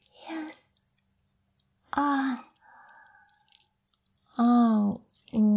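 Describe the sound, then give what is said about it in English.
Crunchy chewing in a few short bursts, mixed with breathy sighs and drawn-out voiced groans between bites. “Oh, feel me crunch.”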